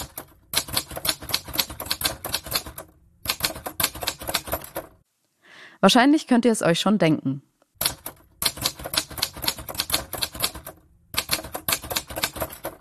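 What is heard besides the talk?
typewriter typing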